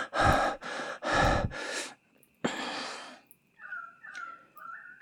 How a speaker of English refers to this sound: Oh, when you fuck me like that, you reduce me to squeaks and pants, panting.